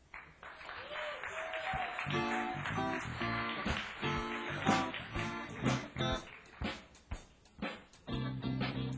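Steady audience applause fills the whole stretch as a music group is introduced on stage, a dense crackle of many hands clapping mixed with raised voices and cheers, swelling and dipping in loudness without stopping.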